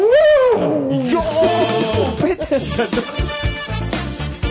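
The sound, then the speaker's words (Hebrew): A saxophone blares loud, wavering, trumpeting cries that bend and swoop in pitch, mimicking an elephant's call, with gruff growling tones running through the whole burst. “שמעת הציל של פיל שמוציאים, ציל של פילים מהסקסופון. בוא תן לנו איזה פיל.”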